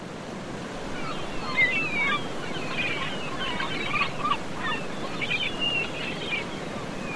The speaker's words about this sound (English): I was down at Formby Beach, walking near the sea of Formby Beach. Swash, backwash, swash. Swash, backwash, swash